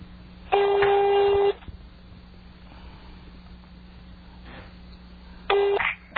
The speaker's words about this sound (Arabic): هذا الآن رقم أرضي ولا لا؟ أيوة كل أرقام أرضية. أي هذا وين؟ في رفح. 21 في رفح. أي هذا قاعد يرن بس ما أدري عاد الصوت واضح عند المشاهدين ولا لا؟ خلي قريب المايك.